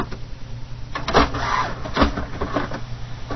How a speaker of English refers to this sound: And the printer's getting ready. The scanner has started scanning. I hear it underneath.